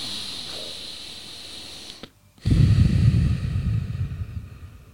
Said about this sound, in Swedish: Och så 3 stycken djupa andetag. Och varje gång du andas så åker extra ner. Då åker spänningen ner.